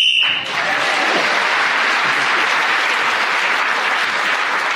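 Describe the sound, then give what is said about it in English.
A short, shrill whistle blast marks the end of a round of a panel game while Paul Merton is speaking, sounding for about half a second, then a crowd breaks into loud, sustained applause that carries on steadily to the end. “So, at the end of that round, Paul Merton, speaking as a whistle end, gained that extra point.”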